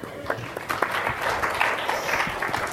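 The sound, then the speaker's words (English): A crowd applauds steadily, many hands clapping in a dense, continuous patter that stays fairly even in loudness throughout, with no voices standing out. “I'm going to give you an applause because”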